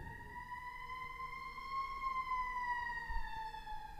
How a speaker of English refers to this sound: Okay, sorry, I got rudely interrupted by an ambulance or by a fire truck. I'm not sure, I didn't see it,